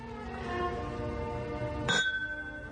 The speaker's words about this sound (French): Là, trinquons, trinquons. D'accord, trinquons.